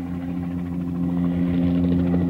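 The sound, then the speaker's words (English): A helicopter drones steadily with a low, thrumming engine hum that grows a little louder partway through, as if drawing nearer. No voices. “Below, Lewis hears the helicopter approaching.”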